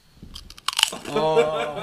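A handful of sharp, crisp crunches from someone biting into chips, quick irregular bursts that give way to a voice sounding over the tail end.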